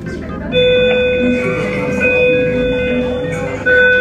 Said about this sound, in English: Oh, they're gonna play a fake bell.